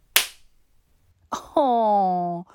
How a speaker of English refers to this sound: Oh no. Look who just got slapped and is suddenly really, really startled.